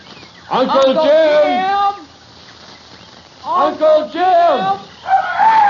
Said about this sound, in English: That's just a parrot